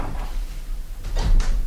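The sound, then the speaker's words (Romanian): A door is opened after the keys are fetched: a low, muffled rumble followed by two quick clunking rattles of the latch near the end, with no one speaking. “Da, îmi dați voie, domnule inspector, să mă duc să deschid.”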